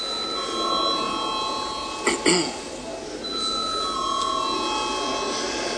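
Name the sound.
parliament chamber bell rung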